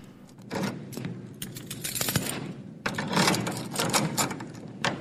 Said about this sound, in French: 2 minutes plus tard, l'anglais tentait la chance et, les unes après les autres, essayait avec précaution les clés du trousseau dont il s'était emparé. La 4e fit jouer la serrure.